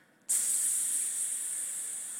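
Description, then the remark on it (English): A sudden, steady high-pitched hiss of water spraying from a kitchen sink supply tube that a pet rabbit had chewed holes in under the sink, starting abruptly after a brief quiet moment and continuing loudly without a break. “Well, the rabbit had chewed holes in this tube connecting the water to her kitchen sink.”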